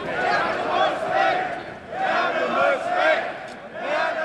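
A crowd at a demonstration shouts together in loud, rhythmic waves, the massed voices swelling and dipping roughly once a second like a chant, with no single voice standing out.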